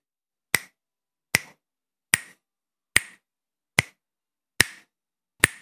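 Seven crisp finger snaps in a steady, even rhythm, each a sharp bright click with a short ring, with silence between them and no voices.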